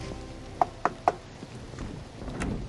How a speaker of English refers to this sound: This is the one knock I dread, and it never gets easier.